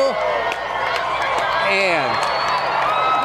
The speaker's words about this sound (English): And the crowd goes wild.